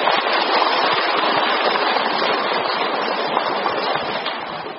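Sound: audience applause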